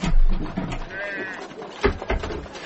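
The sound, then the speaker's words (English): A single sheep bleats once with a short, quavering cry, set against a rumbling background with a few soft knocks afterward. “That's a blooming sheep making a row, Sam.”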